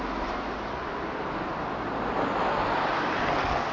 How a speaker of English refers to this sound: It's too noisy, all these cars, isn't it?